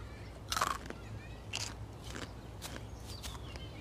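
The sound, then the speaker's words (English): Crisp crunching of a snail being bitten and chewed, a sound effect for a scene in Santa Clarita Diet: five or six irregular brittle crunches over a faint low hum, no talking. “that you did that sound, the snail crunching?”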